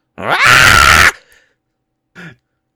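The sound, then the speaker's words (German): A person loudly imitates a cat's scream: one long, strained, high yowl lasting about a second, followed after a pause by a short, quieter vocal sound. “Hast du schon mal eine Katze schreien hören?”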